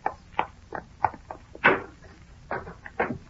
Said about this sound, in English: I pushed open the swinging door of the hotel and walked up to the reception desk.